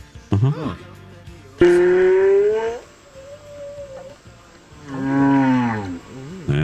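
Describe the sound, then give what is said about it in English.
Long, low moaning calls of blue whales mating, played as a sound effect, swell and bend in pitch, with a thin sustained tone between them; a few loud wails close together, no talking over them. “On My Talk 107.1, everything entertainment, everything blue whales mating.”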